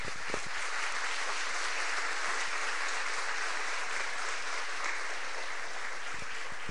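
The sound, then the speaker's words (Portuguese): A church audience breaks into sustained applause to the Lord, a dense, steady wash of many hands clapping at once, loud and continuous for the whole stretch with no voices standing out. “Aleluia, aleluia, aplauda ao Senhor aí.”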